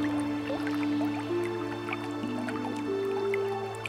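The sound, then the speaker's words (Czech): Water drips and trickles steadily, with many small irregular plinks scattered over a continuous low, humming flow. It sounds fairly quiet, and no one speaks. “Možná jsou zde kameny, které brání průtoku.”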